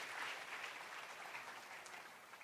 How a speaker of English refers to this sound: Can we give Lord Jesus a big round of applause?